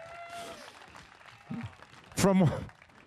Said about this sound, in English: A nice round of applause for ….